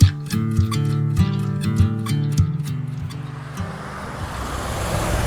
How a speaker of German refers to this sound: Ja, ihr hört hier die Autos. Wir sind direkt an der Straße.